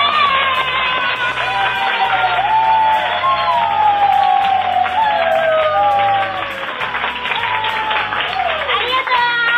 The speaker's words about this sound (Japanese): というわけで2万人の歓声を浴びながら今回のビルビル元気お届けしました。